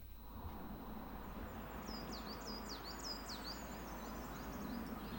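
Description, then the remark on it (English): Birdsong at the upper end of Old Kirk Braddon Graveyard rises over a steady outdoor background hum, a cluster of quick, bright chirps and trills repeating in a short run before fading back into the low ambient noise. “You can hear the birds better now.”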